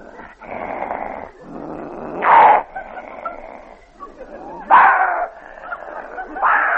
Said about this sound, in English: A dog fight.